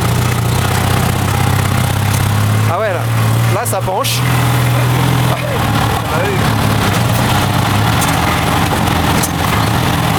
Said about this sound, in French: La 2 chevaux, c'est une belle bagnole, ça va partout. Ça passe partout, normalement.